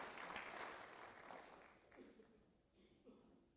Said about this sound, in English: It's a marvelous job they have done so far. It's worth us appreciating them. Let's clap hands for them.